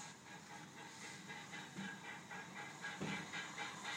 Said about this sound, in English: And it would seem that our window, our room, looks down towards the station because we can hear the steam train preparing to leave. It's due to leave in about 2 minutes, and I thought I would record it.